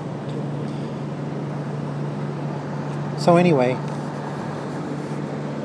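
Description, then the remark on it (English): Steady, dense background noise at a bus station where a Coach Canada bus stands: a constant broad rumble with a low droning hum running throughout, and a voice speaking briefly partway through. “We're at the bus station now here, so it's getting noisier again.”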